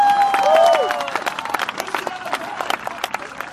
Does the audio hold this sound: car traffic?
no